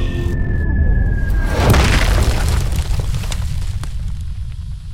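A meteor crash: a steady whistling tone and heavy rumble build to a loud explosive impact, followed by crackling, scattering debris and a low roar that slowly fades.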